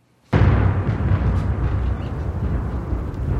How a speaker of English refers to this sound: You hear that thunder?